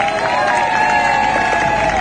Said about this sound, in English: These are our Morro Bay High School Cheerleaders. I'm going to give you a big round of applause, please.